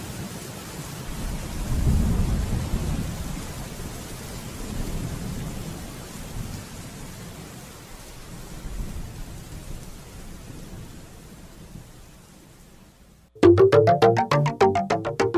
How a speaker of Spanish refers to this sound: Llueve, llueve, tan tupidamente llueve que el bosque entero parece un bosque sumergido en el mar.